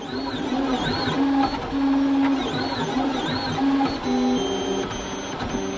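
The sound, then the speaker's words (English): A small home 3D printer made by Solidoodle runs steadily, its stepper motors whining in shifting tones and short bursts over a continuous mechanical hum, with no one talking. “That's a 3D printer, a small home version by Solidoodle.”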